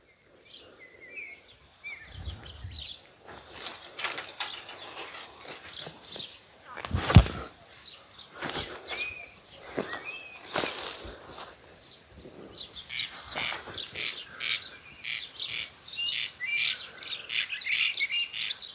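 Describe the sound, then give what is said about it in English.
A corncrake gives its dry, rasping call in a steady run of repeated pulses outdoors, over rustling and a few footstep-like thumps as someone trudges towards the area the bird is calling from. “And the thing about a corncrake is, of course, that you can't see them, but they can see you.”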